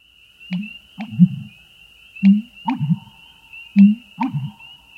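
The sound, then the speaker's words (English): A loud, reverberating marsh bird call heard near a marsh with cattails on a spring morning: deep, gulping booms delivered in three evenly spaced phrases, each a quick double or triple pulse, over a thin steady high whine. “One fine spring morning, as you walk near a marsh, you're stopped in your tracks by a loud, reverberating call with a cadence that seems lifted from an old cartoon soundtrack.”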